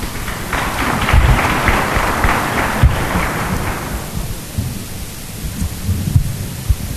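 An audience breaks into applause, a dense crackling burst of clapping that holds for about three seconds and then trails off into low background murmur.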